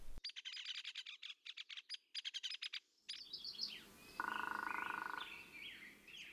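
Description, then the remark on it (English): Outdoors, a hairy woodpecker's sharp, high peek calls ring out among bright, rapid pulsed bird notes, followed by scattered chirps and a steady whistling tone over a soft natural background. “That was a hairy woodpecker, that peak sound, that high-pitched peak.”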